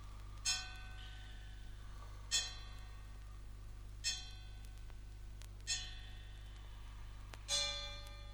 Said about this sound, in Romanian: Unul după miezul nopții sună în vecinătate.